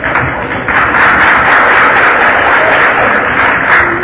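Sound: audience clapping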